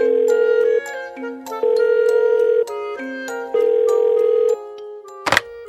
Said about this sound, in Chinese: 哦，还好找到电话了，快快拨电话给尼古拉，希望尼古拉的声音很快在电话里出现。